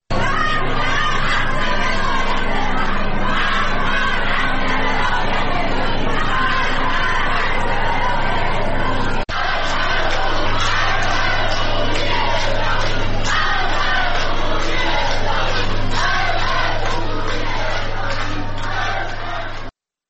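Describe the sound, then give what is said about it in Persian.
A large crowd at a protest rally at a metro station chants the slogan "Death to the dictator" in loud unison, voices overlapping in a steady roar that continues for about twenty seconds, with a brief break partway through. “بر اساس ویدیوهای انتشار یافته در شبکه‌های اجتماعی، در این تجمع اعتراضی شعار مرگ بر دیکتاتور سر داده شد.”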